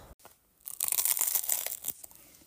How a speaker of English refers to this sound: I'm a Pop-Up Bagels subscriber. Of course I'm going to make you listen to me take the first bite out of a frozen and then defrosted in 350 degrees baking temperature for 7 minutes. And you get to hear my first bite of a cinnamon raisin bagel.